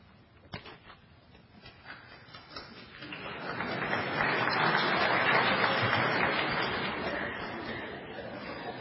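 audience applauding

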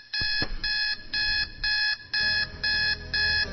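alarm clock ringing

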